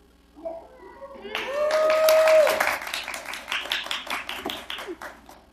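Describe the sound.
An audience at a session chaired by President Fish, with the rules suspended so clapping is allowed, breaks into dense, steady applause lasting several seconds, with a sustained whoop rising over the clapping early on and faint voices murmuring underneath.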